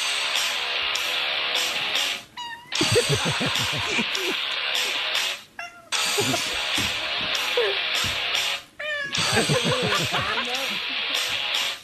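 A cat meows in several drawn-out, wavering bursts over loud, dense music, singing along in real time to a song in a YouTube video, its yowls rising and falling roughly in time with the song, with short gaps between phrases.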